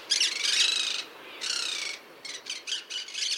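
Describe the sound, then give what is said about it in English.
Harsh, raspy squawks from a monk parakeet, also called a Quaker parrot, a couple of long grating calls followed by a quicker burst of choppy squawks, loud with no one talking. “and deep blue wings, is also known as the Quaker parrot, and it's a native of southern South America.”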